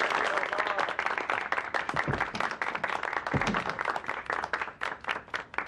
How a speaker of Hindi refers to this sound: सब मिलकर तालियां बजाएं।